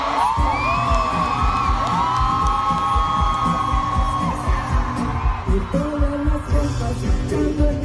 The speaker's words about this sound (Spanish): Vamos a gritar fuerte para que nos escuche el presidente y nos escuchen en todo el mundo. Por todas nuestras compañeras, vamos a gritar fuerte. Todas, que nos escuche el mundo.